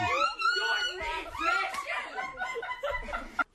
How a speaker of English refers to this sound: That is some shriek, man. I'm surprised I can still hear after that. Made grandma deaf.